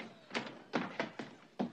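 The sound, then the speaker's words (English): Doors being torn off at the station by Mungo: about six heavy, splintering thuds and bangs in an uneven rhythm, the last one loudest and sharpest, with no voices. “Mungo tears the doors off at the station.”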